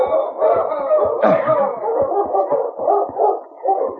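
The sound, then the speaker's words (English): A sled dog team barks, yips and howls together in a continuous, overlapping chorus, loud, with sharp yelps punctuating the steady din throughout. “You get our dog team and sled over here.”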